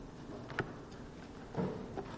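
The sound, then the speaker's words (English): A door knocks and rattles in the wind a few times at irregular intervals, dull thuds against a steady background hiss, fairly faint, with no voices. “That wind will have that door doing that all night.”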